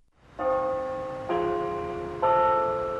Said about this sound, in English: The bells of Robert Carr Chapel ring out sweetly over the live oak trees, while underneath students and faculty stroll in contemplation and reflection.